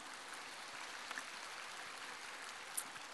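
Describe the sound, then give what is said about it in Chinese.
Steady, fairly soft applause from an audience fills the whole moment, a dense wash of many hands clapping at once with no voices on top. “你们一鼓掌我就要解释了”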